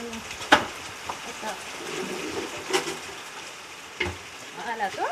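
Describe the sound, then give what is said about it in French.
Steady, crackling hiss of rain falling throughout, with a few sharper taps standing out, and faint voices murmuring toward the end. “Voilà, après il pleut.”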